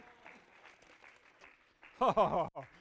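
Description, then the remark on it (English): Low, steady patter of an audience clapping with some crowd murmur, then a loud voice bursts out briefly near the end over the clapping. “Somebody say amen and clap your hands. Clap them again.”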